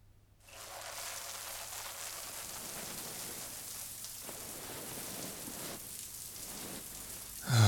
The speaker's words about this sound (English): You strip, I'll start the shower.